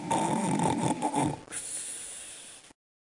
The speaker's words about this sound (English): While the enemy were lying in wait, snoring their heads off.